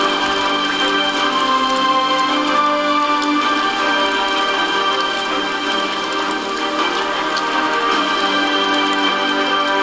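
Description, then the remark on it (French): Steady rain falls continuously, a dense, even patter of drops at moderate loudness that stays constant throughout, with no voices. “Qui, lorsqu'elles sont assez lourdes, tombent avec la pluie.”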